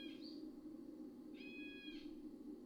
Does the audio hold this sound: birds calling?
yes